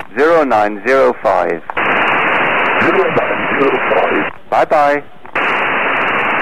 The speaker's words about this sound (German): Die verzögerte Wiederholung ist das Echo des Mondes. Der reflektiert die Funksignale zurück in Richtung Erde.